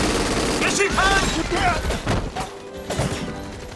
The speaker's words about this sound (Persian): صدای شلیکو شنیدی؟